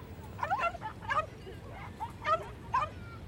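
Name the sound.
dog barking and whimpering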